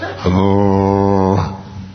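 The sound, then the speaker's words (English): A single low, steady tuba note sounds for just over a second, holding a flat, buzzy pitch before cutting off, with faint room noise on either side. “Tim, can we kill the tuba, please?”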